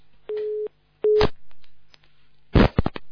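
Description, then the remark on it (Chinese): A telephone busy tone sounds as two short, steady mid-pitched beeps with a pause between them, followed by a brief burst of crackling line noise and clicks, as a phone line fails during a call. “那么哎呀，他这个电话线又不行了。”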